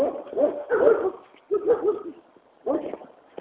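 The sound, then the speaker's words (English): A dog behind a fence barks in three short clusters of rapid, yappy barks separated by brief pauses, fairly loud, with no other sounds around it. “I'm going to cross the street because that dog is out.”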